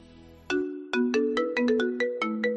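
A melodic telephone ringtone plays a quick sequence of bright, pitched electronic notes in an uneven rhythm, fairly loud with no voices, preceded by a brief low buzzy tone. It is a call to the company Cuatre.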